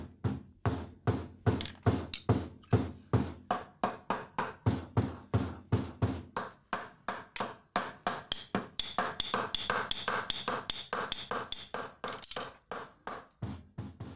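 Steady hammering on nails in a village: rapid, evenly spaced metallic knocks, about three or four per second, continuing throughout, later joined by brighter, ringing taps that overlap into a busier clatter.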